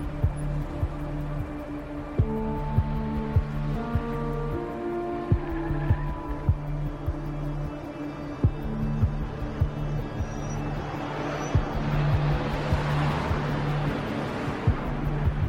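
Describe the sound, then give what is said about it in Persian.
Samir's car drives steadily along a road, its engine holding a low, even hum with a faint tonal whine and soft periodic ticks, while road noise swells briefly near the end. “ماشین سمیر تو جاده شما در حال حرکته.”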